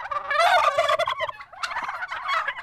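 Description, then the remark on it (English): Several turkeys gobble loudly and nearly continuously, their rattling calls overlapping in a dense chorus with a brief dip in the middle before surging again; a flock of close to 50 turkeys raised by a 14-year-old in Santa Rosa. “Instead of playing video games or getting on Facebook after school, he tends to his flock of close to 50 turkeys.”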